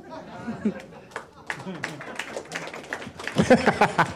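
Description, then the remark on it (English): Scattered, uneven clapping from a small audience mixed with murmuring voices and chatter, the claps growing denser and a bit louder in the last second. “I love that applause was like a lot of people don't know what just happened.”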